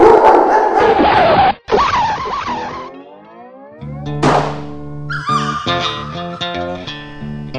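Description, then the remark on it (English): A loud scraping skid and scuffle as the family dog bounds in, followed by the dog barking several times, the barks sharp and loud over a sustained tonal background. “He places it on his state-of-the-art record player, and as he is about to carefully lower the tone arm onto his favourite track, the family dog bounds in.”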